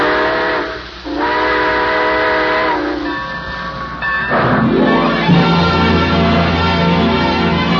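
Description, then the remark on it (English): A steam train's whistle sounds in long, loud, harmonic blasts, with a short break and then a rising, wavering tone as the engine starts off, its low chugging and hiss filling the background. “All aboard! Well, it looks as though we're ready to pull out”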